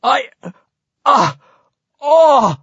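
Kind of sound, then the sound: human body sound, heavy breathing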